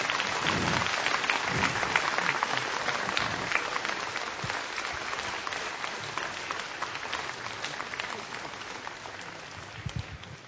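A crowd in a sanctuary of Saint Joseph claps steadily for about ten seconds for a young child, a dense, crackling wash of many hands that stays loud throughout and tapers only slightly at the end.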